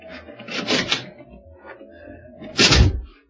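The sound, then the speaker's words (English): The unlocked door of a house with a light on is opened: a rattle of the latch and handle, a brief pause with faint creaking, then a solid knock-like thud as it swings. No one speaks. “Here's a door. It's only unlocked. It is.”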